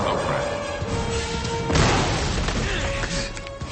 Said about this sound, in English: then dives forward as the giant hammer smashes into the bridge again, knocking off another section.